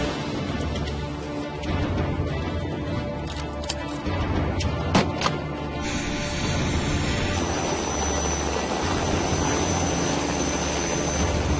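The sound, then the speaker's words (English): A float plane's propeller engine drones steadily and loudly, a continuous low roar with some brief clicks and rattles partway through. “So you know how to launch a float plane?”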